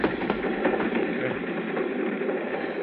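A moving train rumbles steadily along the rails, a dense, continuous roar with faint rhythmic clacks running through it, close and fairly loud, with no voices.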